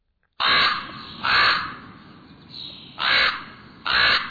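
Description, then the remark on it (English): A common raven calls with four harsh, croaking caws spaced about a second apart, loud, plus a fainter croak between them, with no talking. “The raven, its voice is unmistakable, held a prominent place in the myths of many cultures, from the Vikings to the tribes of the Northwest coast, across the entire Northern Hemisphere.”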